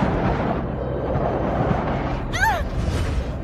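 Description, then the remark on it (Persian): An aircraft shudders through air turbulence in light fog, a loud continuous low rumble filling the whole stretch, with a brief high whining tone sweeping past near the end. “تلاتوم هوایی.”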